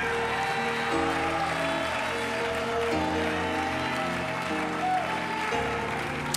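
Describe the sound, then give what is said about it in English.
An audience claps to the Lord in praise, steadily over sustained organ or keyboard chords, the dense patter of hands continuing evenly throughout with no voices standing out. “Now clap your hands to the Lord. Give God the praise.”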